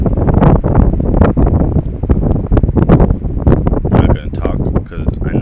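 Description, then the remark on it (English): Strong wind buffets the microphone in a loud, continuous low roar with rough gusty bursts, overwhelming throughout, easing slightly near the end. “See, it's getting real windy.”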